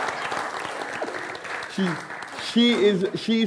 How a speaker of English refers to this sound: Yeah, that is a round of applause.